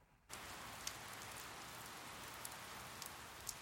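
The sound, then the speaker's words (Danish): Heavy rain pours down outdoors in a steady, dense hiss, with occasional louder drops spattering. It starts abruptly after a brief quiet moment and continues without any voices. “Det regner udenfor. Faktisk pisser ned.”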